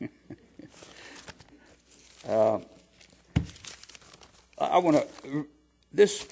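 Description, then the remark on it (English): Crinkly rustling of paper being shuffled and handled in short, uneven bursts as someone searches for a paper they wrote notes on, with a few brief murmured vocal sounds mixed in between the rustles. “See, because if I can find a paper here that I wrote stuff on.”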